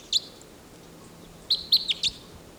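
A wild bird calls with short, high-pitched chirps: a single chirp, a pause of over a second, then a quick run of four more, clear above a quiet hiss, with no talking.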